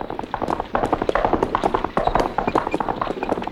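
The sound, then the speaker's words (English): Horse hooves clip-clop in a quick, dense rhythm, as if several horses are trotting past. The clopping stays steady and loud throughout, with no one talking. “I hear horses.”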